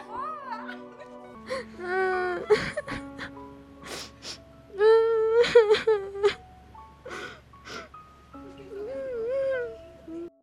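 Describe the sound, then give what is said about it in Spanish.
A girl cries and whimpers in wavering, high-pitched sobs, with breathy gasps between bursts, fairly loud over a low steady background hum. “¿tú alguna vez has visto una cerdita llorando?”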